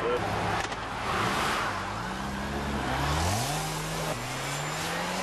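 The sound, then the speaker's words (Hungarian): A speeding Opel Insignia's engine roars on the M5 motorway near Kecskemét, Hungary, during a police speed check, its pitch climbing in steps through gear changes over steady, loud road and wind noise. “Opel Insignia 164-jel.”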